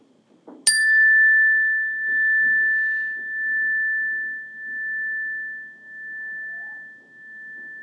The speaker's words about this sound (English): When you hear the chime, listen to the sound as long as you can.